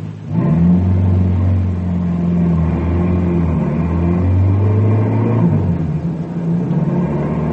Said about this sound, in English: Harry watches the speedometer to be sure he's going the same speed that Norman did. Meanwhile, Bill hears the car approaching